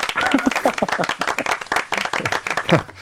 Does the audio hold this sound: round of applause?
yes